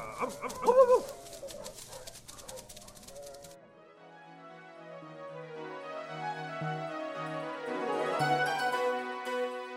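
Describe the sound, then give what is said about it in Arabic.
Two dogs give a few loud, yelping barks and whimpers in the opening seconds as they hurry off to search for a cat, then fade into a soft, steady run of sustained musical tones that swells gently toward the end. “وفعلا يا أحبائنا الحلوين، رحل الكلبان بسرعة يبحثان عن القطة، لأنهما لم يصدقا البقرة التي قالت لهما إنها هي التي خبأت القطة بين الحطب.”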